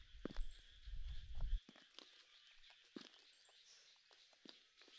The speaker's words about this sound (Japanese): 下駄の音だし、おじいちゃんかな。もう背丈もわかるでしょうか。声をかけてくれてもいいのにな。もしかしてこの辺りの人じゃないのかな。足音はもうすぐ後ろ。